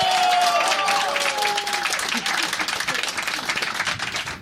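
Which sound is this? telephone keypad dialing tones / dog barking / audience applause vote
audience applause vote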